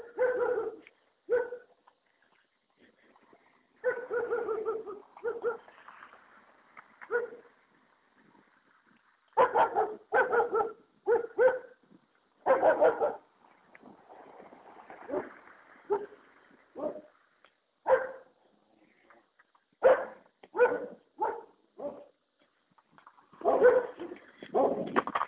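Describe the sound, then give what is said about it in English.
A dog barks repeatedly in irregular bursts, sharp loud yaps with brief pauses between them, some faint whimpering in the gaps, no voices alongside. “Oh, here's the stupid barking dog.”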